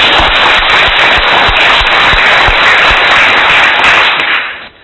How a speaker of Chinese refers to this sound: 两位小菩萨呀、啊、师父替你们欢喜呀、啊、你们好好孝顺父母啊，那么大家鼓鼓掌给他们来。